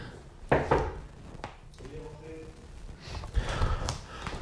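A few sharp, hollow knocks on a professor's wooden door, spaced irregularly, followed by quiet shuffling and a brief murmur of voices.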